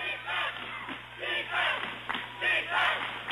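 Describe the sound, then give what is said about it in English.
The Cherry Valley cheering section chants "defense" in a steady, repeated rhythm during a basketball game against Oxford, the crowd's voices rising and falling in loud bursts. “Chance of defense from the Cherry Valley cheering section behind us.”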